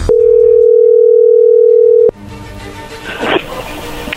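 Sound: telephone call dialing tone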